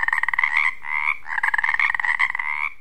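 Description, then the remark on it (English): Male tree frogs, no more than 2 inches long, give mating calls from near rocks or logs in rapid, pulsing trills, several overlapping bursts in quick succession, loud with bright, buzzy tones and no voices present. “These calls might sound the same, but to the female tree frog, she can sort through as many as 8 different calls at once as she zeroes in on a partner.”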